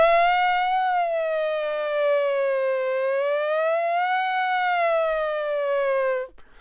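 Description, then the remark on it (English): A voice imitates a police siren with a loud, sustained wailing tone that slowly rises and falls for about six seconds before cutting off abruptly. No one is speaking. “Not a bad siren sound, huh?”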